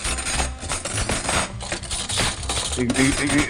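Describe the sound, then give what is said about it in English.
Busy metallic clinking and clattering of cutlery being shuffled and rummaged through in a drawer, a dense, continuous jangle lasting a few seconds. “This, when you're looking for that special fork or knife, or maybe the good scissors, if you keep those in.”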